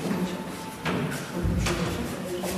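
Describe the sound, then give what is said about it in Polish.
A few dull knocks on a door in the building of a canteen at ulica Janastyki 21, which has residential rooms upstairs, spaced unevenly about a second apart, over a steady low background hum with no talking. “Puk, puk.”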